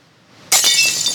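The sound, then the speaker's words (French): After a brief quiet moment, an igloo window suddenly shatters with a loud crash, followed by a bright spray of tinkling glass fragments that rings on to the end. “Et merde, il nous a pété la fenêtre de l'igloo, dis donc.”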